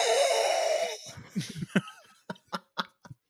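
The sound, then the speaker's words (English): A voice imitates heavy, wheezy breathing right up against the microphone, starting with a long rasping exhale, then a series of short huffing breaths and snickers. “Sort of going right next to the mic. Breathing too close to him.”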